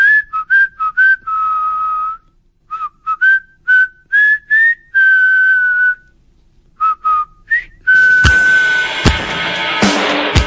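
Someone whistles a lively tune close by, starting with short bouncy notes and brief pauses, then longer held tones, finishing over a loud rush of noise with a few sharp knocks.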